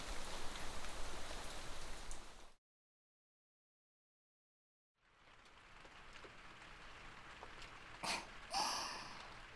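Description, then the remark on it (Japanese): Steady rain pattering on a surface, heard while sheltering from the rain at an inn, fills the air, drops out to total silence for a couple of seconds, then returns with a few louder splashy drips near the end. “こうやって雨降りの中、お宿で雨宿りしていると、なんだか世界に二人っきりのようで、こういった時間も素敵です。”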